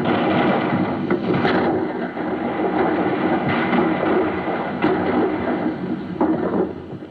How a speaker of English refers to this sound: Yesterday, the sound of cannon fire was made by striking a kettle drum and hitting the low notes on the piano like this. Today, it is made by playing a recording of cannon fire on a turntable.